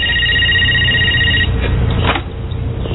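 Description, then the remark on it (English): A single ring from an outgoing phone call on a borrowed phone, made to reach Grandma, heard thin and tinny over the line, lasting about a second and a half before a click and low line hiss as it connects. “Hey, could I use your guys' phone for a sec?”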